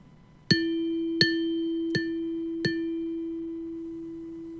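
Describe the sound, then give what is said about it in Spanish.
A clock bell chimes four times at a steady, unhurried pace, each bright metallic strike ringing into a sustained low hum that lingers and slowly fades after the last stroke. “La campana de un reloj.”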